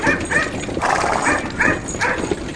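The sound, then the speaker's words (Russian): A dog barks at horses pulling a cart, in a rapid series of short, yappy bursts, fairly loud, with a steady rustling background underneath and no talking. “Это была ученая собака. Она умела править вожжами и лаяла на лошадей, когда те начинали дремать или сбивались с дороги.”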